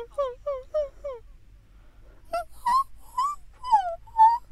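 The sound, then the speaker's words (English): Two people take turns imitating a whining puppy as a vocal exercise: one gives four quick, falling whimpers, then after a short pause the other answers with five higher, wavering whines, all fairly loud. “Imagine you're a really cocky puppy.”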